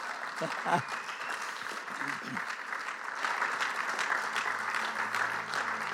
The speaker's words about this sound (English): Now you can give the Lord a big hand clap right here.